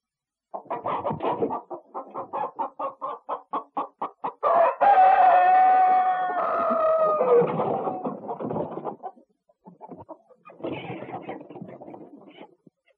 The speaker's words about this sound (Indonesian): Suara apa, anak-anak? Benar, suara ayam.